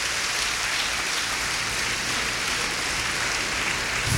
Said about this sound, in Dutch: Laat de Heer u zegenen. Kom en geef hem een applaus en laat me u wegsturen.